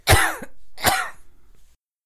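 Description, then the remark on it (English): Two loud, harsh coughs from a dog, about a second apart, each a sharp burst trailing into a raspy, throaty tail before silence. “When your dog's coughing, he's coughing for a cannoli.”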